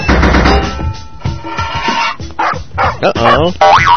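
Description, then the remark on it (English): Short, bright electronic barks and yips from Spanky the dog in a video game ring out over busy, chiptune-style game music, joined by springy boing effects and rising bleeps, all loud. “Got over Spanky the dog that time.”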